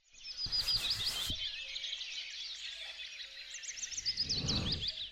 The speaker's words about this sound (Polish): Więc od razu są ptaki, tak jak kolega mówi.